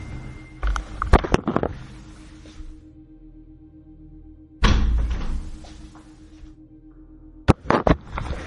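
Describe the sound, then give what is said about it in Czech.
A door is slammed shut several times, each loud bang followed by brief rattling and shuffling, with a steady low hum filling the quieter stretches between the impacts. “stačilo jenom bouchnout s dveřmi.”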